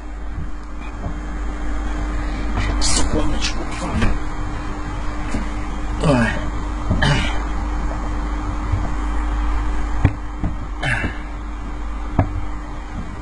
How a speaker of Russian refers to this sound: Блять, у меня стул опять лопается. Ой.